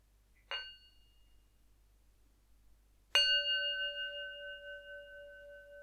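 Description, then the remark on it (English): A meditation bell is struck twice: a light first tap that fades within a second, then a fuller strike whose clear, layered tone rings on steadily. No voices, just quiet background noise. “So we'll just go through from head to the toe, and I'll start with three sounds of the bell.”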